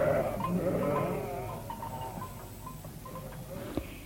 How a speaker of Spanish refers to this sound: Y mientras las cabras estaban paciendo,